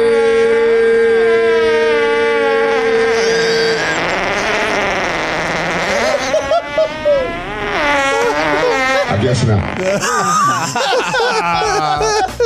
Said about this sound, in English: That is so good. Golly. That is a fart artist. The famous fart folder, guys.